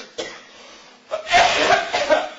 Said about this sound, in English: Excuse me, I'm going into coughing fits just thinking about it.